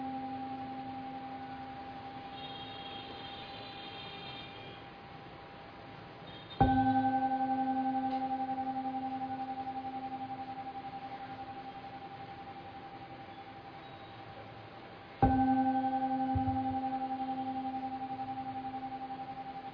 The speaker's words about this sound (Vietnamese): Bây giờ mời đại chúng nghe ba tiếng chuông để chúng ta kết thúc buổi pháp thoại ngày hôm nay.